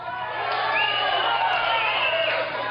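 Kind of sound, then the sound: crowd, crowd chanting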